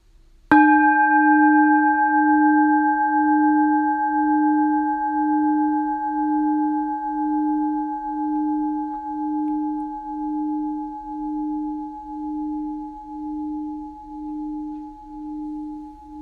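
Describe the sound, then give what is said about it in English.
A single bell strike rings out clearly, its tone lingering and slowly fading over many seconds with a gentle pulsing shimmer, heard alone in an otherwise quiet space. “I'm going to hit the bell one more time. Just receive the sound and allow it to arise and pass away.”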